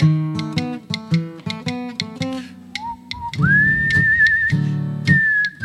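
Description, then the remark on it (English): A person whistles a clear, wavering melody over strummed guitar accompaniment; the whistle enters partway through, holding long sustained notes with slight vibrato, fairly loud. “Does anybody whistle?”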